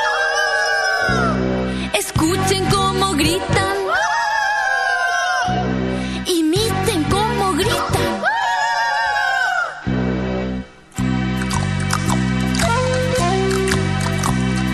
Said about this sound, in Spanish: Escuchen esos indios, tienen ganas de atacar. Escuchen cómo gritan.